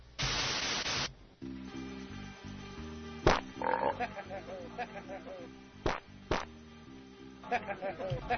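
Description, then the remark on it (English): A burst of static gives way to steady music, with low, buzzy fart sound effects blurting out repeatedly over it and a few sharp cracks punctuating the track. “Well, admiration was soon followed by, you know what this needs? Some fart sounds.”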